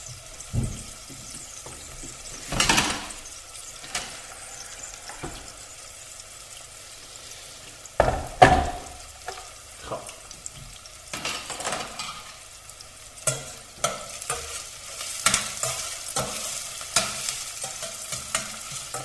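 Onions sizzle steadily in a hot stainless steel pot over high heat while a utensil scrapes and stirs them in repeated bursts, with a few louder clatters against the metal. The sound is continuous, without speech.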